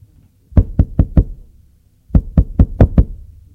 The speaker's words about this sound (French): On a frappé à la porte.